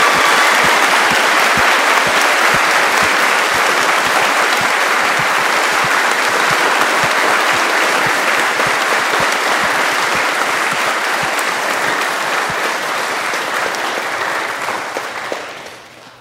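Sustained applause from an audience, a dense, steady patter of many hands clapping at full volume for about fifteen seconds before fading out at the end.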